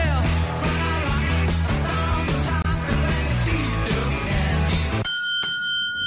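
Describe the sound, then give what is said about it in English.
Upbeat pop music plays loudly, then cuts off abruptly as a single small bell dings clearly in place of a lyric, ringing with a bright sustained tone for about a second. “But instead of a certain lyric, you're going to hear a little dingy bell, and I want you to tell me what word is missing, okay?”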